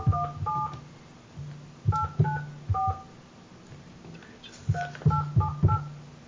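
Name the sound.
telephone keypad dialing tones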